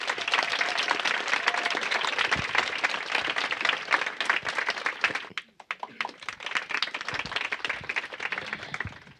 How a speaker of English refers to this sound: et on peut les applaudir également.